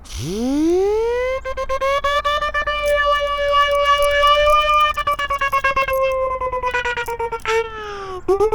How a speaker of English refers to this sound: Yeah, I also brought my siren with me. Just because I can.